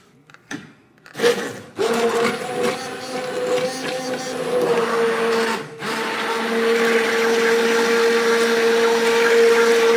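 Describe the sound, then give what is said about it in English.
An immersion blender whirs into life after a few soft knocks, then runs as a steady motor whine, pureeing hot soup directly in the pan, dipping briefly midway before droning on. No one speaks. “But where the immersion blender just goes in there. It just goes right into the pan.”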